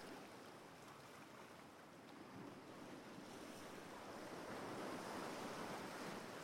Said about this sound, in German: Das hier ist dein eigener Strand, an dem du die Sonne, den Wind und das Meer genießen kannst.